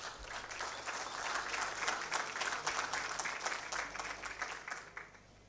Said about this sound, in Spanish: Fuertes los aplausos.